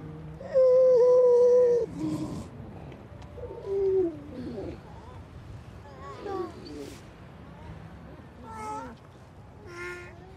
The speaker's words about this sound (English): And listening to those quite disturbingly human, childlike voices of grey seal singing on the night, being occasionally illuminated by the passing beam from the Longstone.